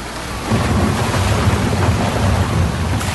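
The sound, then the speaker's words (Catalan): A loud, steady roar of a storm at sea that wrecks a ship, with deep rumbling thunder and heavy rain over crashing waves, continuous throughout with no voices. “Però la seva existència va fer un tomb el dia que en un dels seus viatges el va sorprendre una tempesta que va fer naufragar el vaixell on viatjava.”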